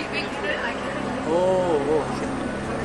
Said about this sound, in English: Helicopter is leaving now.